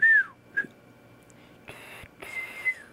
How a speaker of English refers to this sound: Sounds like a birdie. Hello. Somebody's got a birdie in the room. I've been practicing whistling. I can't do it.